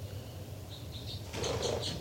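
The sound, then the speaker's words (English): A bird takes off with a sudden burst of fluttering wingbeats, preceded by a few short, high chirps over a low steady rumble; more chirps continue through the flapping. “298 flying.”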